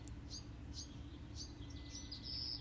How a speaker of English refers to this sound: Listen to that beautiful bird song. This is a bird that lives in Santa Fe, New Mexico.